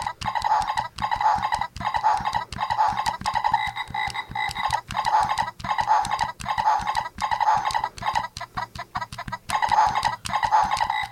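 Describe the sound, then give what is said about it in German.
An electronic toy plays a rhythmic, looping sequence of synthetic frog croaking and clucking sounds, repeating steadily in loud bursts with no talking over it. “Das ist, glaube ich, ein Hund oder so, ein Wolf. Oder den Frosch.”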